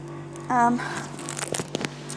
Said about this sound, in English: Oh, excuse the noise, it's a tumble dryer making a racket.